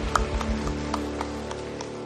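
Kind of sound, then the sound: crowd, audience applause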